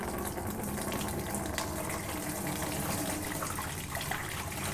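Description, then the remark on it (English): Water pours steadily into a container, a continuous gushing and splashing that stays loud and even throughout, with no voices. “And what happens when the water goes in? It also overflows.”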